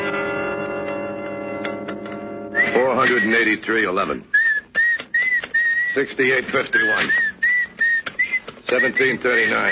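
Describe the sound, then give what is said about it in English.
Someone whistles a thin, eerie high-pitched tune in short repeated phrases while voices talk over it, after a few seconds of steady low droning hum at the start. “Stop that creepy whistling, will you?”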